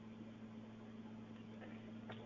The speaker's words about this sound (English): if the air conditioner is too much, the noise.